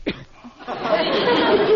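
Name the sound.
sneeze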